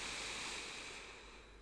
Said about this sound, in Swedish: Ta ett djupt andetag in genom näsan. Fyll upp hela bröstkorgen och magen med luft.